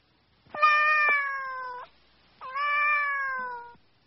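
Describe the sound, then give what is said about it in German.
A cat meows twice, each call long and drawn-out with a steady, nasal tone, clear with a short pause between them and no other sounds. “Die Katze.”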